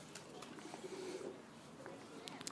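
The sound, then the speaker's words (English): A soft, low coo from doves in an aviary cage murmurs briefly through a quiet, hissy background, with faint scattered chirps and small rustling sounds around it. “The last cage here appears to have doves and a peacock.”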